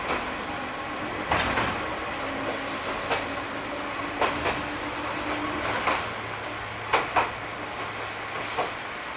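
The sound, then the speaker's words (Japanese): Steady rumble of an electric train heard from inside a carriage, slowly running downhill between trees near Kimigahama, Japan, with a broad hiss and intermittent sharp clicks and knocks from the wheels on the track, rolling along at an unhurried pace. “電車はこれより木々の間をゆっくりと下ってまいります。”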